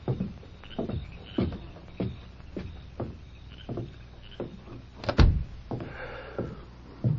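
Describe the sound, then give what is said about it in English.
Steady thuds like footsteps lead into one heavier bang as a door is shut, followed by a few softer knocks and movement; no one speaks. “Who was at the door?”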